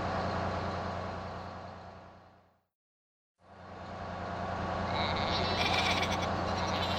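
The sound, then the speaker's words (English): Many sheep on the road bleating together in a loud, continuous chorus over the low engine rumble of a stopped bus. The noise fades away briefly partway through, then swells back up. “There are lots of sheep on the road.”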